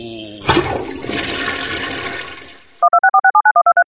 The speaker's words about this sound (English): And then there's a toilet flushing followed by some beep boop beeping, and then we break into April Fool's Day.